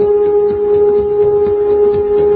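A flat, steady electronic tone simulating a baby's brainwave drones on without change. It is loud and continuous, with a faint buzzing texture beneath it and no voices.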